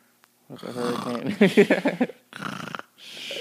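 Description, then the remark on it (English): A voice imitates snoring with a rough, rattling drone that rises into a burst of throaty snorts, then two shorter breathy snores follow, loud and alone with no ordinary talk. “Start making that noise when you just don't want to be doing something that you're doing, or you want to blend it.”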